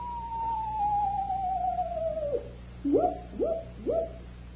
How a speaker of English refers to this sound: There's two owls. Shh. Keep your voice down. I don't think there are any owls at all